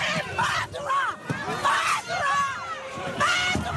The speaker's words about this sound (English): This was the furious response of the crowd when May belatedly met with survivors of the disaster.